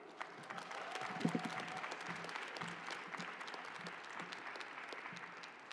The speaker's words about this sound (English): Please join me in one final round of applause for the class of 2023.